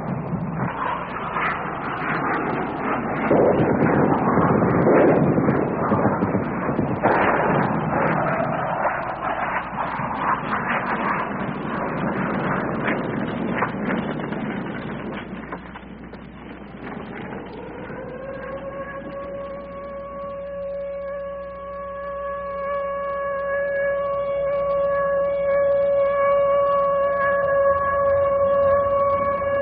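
An air raid on Hanoi, lasting nearly an hour during rain: a dense, crackling roar of rumbling bomb blasts fills the first half, then subsides as a steady, droning air raid siren swells and holds a sustained wailing tone to the end.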